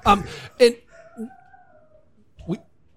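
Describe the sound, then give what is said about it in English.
A dog in the background barks a few sharp times in irregular bursts, with a thin, drawn-out whine or howl in between, heard without anyone talking. “Oh, it's a dog in the background.”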